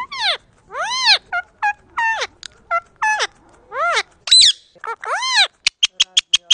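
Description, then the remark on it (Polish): A pet bird named Franek chatters at a mirror, letting out a string of squawky, rising-and-falling chirps and thin whistles, ending in a quick run of sharp clicking notes. “Daj to lusterko. Pokażemy panu, jak go nauczyliśmy, jak go sprowokowaliśmy do rozmowy.”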